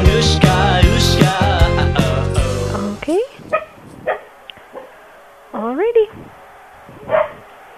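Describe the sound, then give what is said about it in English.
A dog in the background gives a few sharp, whiny barks and yelps in scattered bursts, following a loud, busy opening stretch of overlapping sound. “Can you tell that dog in the background to shut the fuck up?”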